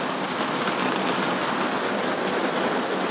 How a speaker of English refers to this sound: Once again, Man in his van hiding from a torrential downpour, or whatever word you want to use.